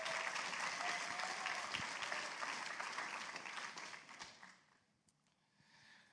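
An audience claps steadily in a dense burst of applause that gradually thins and fades out over several seconds, with only scattered claps remaining at the end.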